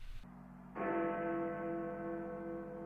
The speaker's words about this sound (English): It was precisely 12 o'clock. 12 by Big Ben, whose stroke was wafted over the northern part of London, blent with that of other clocks, mixed in a thin, ethereal way with the clouds and wisps of smoke, and died up there among the seagulls.